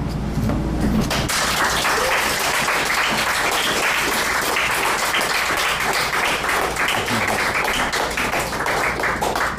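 Sustained audience applause for a poet after a poetry performance, a dense crackle of many hands clapping steadily and loudly throughout, starting just after a brief moment of quieter sound at the very beginning.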